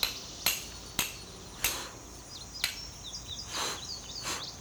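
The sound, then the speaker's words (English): Stones are struck together rapidly to make a spark for lighting a fire, in five sharp, bright clacks at an uneven pace, followed by softer scraping, while faint bird chirps sound in the background. No one speaks. “Hit them together, son. Rapidly.”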